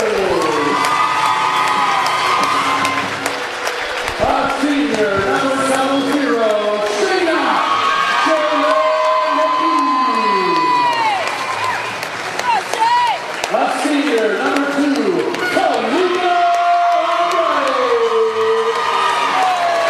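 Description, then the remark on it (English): A crowd at a school game cheers its five seniors at their last regular-season game: continuous shouts with rising and falling whoops and yells over a dense, loud roar, punctuated by bursts of clapping throughout. “You can hear in the background. I'm going to let you listen. These Warriors appreciate their seniors for one last game here in the regular season.”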